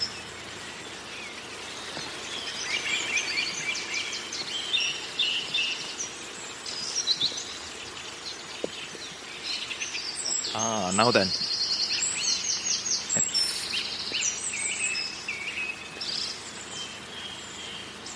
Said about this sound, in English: Is that a reed warbler or a sedge warbler? Now, it's that time of year when you're trying to get your ear in again with reed and sedge warblers.